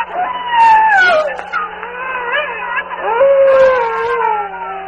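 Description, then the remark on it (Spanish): A long, wavering howl mingling with the wind, with sliding harmonic tones, rising and falling over five seconds, fairly loud, with a steady low hum beneath and no talking. “un aullido resuena, confundido con el viento.”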